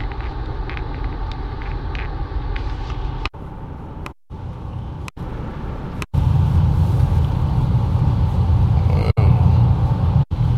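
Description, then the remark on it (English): Steady, loud low rumble of road noise inside a moving car, broken by several abrupt momentary dropouts, and growing heavier and boomier about halfway through. “Hopefully that'll keep the road noise down.”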